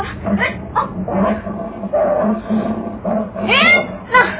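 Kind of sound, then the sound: animal, tiger growling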